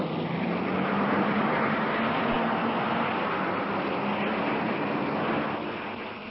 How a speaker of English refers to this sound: And now, listeners, everything's in readiness for the start. All the cars are revving up, each waiting for a signal to go. Any minute now. Yes, the first one's off. The Monte Carlo rally's underway.